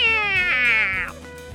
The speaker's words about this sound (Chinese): 屋顶上就站了四只，你看到了没有？一听到猫，查理就会吓得起鸡皮疙瘩，因为查理毕竟是一只小老鼠。